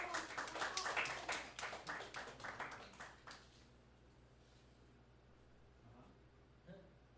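A crowd claps and applauds in a dense burst of hand claps that fades out after about three and a half seconds, leaving a low murmur of room noise and a few faint voices.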